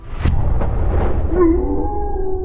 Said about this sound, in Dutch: De hond van onze chef Mark, die we net hoorden, die stamt toch ook af van de wolf?